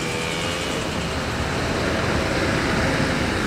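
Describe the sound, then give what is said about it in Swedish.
A heavy truck fully loaded with stone and gravel rumbles past in Skellefteå, a steady, loud low-end engine and road roar that swells slightly toward the end, with no voices. “Lastbil fullastad med sten och grus.”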